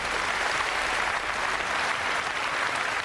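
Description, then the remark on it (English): Steady, dense applause from a crowd, many hands clapping at once in a continuous wash of sound that holds level for a few seconds without any voices. “But clap anyway.”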